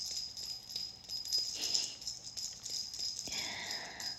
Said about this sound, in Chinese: 现在我要听铃铛的响声，自己摇。